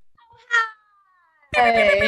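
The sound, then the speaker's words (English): A short cat meow followed by a long, thin, gliding mewing tone, then a sudden loud, strained burst of meowing for the last half-second. “I know, I always feel like I need something like meow, meow, meow, meow.”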